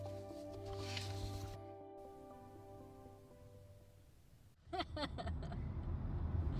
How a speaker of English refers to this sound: All right, so we're in the car. We're in the car.